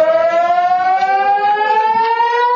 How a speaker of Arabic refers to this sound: دقائق من الرعب عاشها المستوطنون في أغلب المناطق في فلسطين المحتلة عندما انطلقت صفارات الإنذار نتيجة خلل في منظومات الإنذار المنتشرة في مختلف المستوطنات والمدن المحتلة.